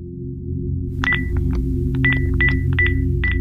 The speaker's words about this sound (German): Zum dritten Mal an diesem Samstag ruft Lothar Habert bei seinem Sohn an. Er lässt das Telefon mehrere Minuten lang klingeln, aber Sven hebt nicht ab.